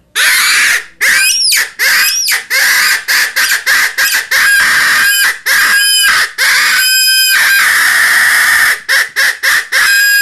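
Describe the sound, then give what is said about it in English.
A rabbit distress call, used to call coyotes while hunting from a hilltop overlooking a field: loud, raspy, high-pitched squeals repeated in rapid, urgent bursts with only brief gaps, continuing nonstop for the whole stretch with no voices. “when that coyote hears that screaming from that little animal”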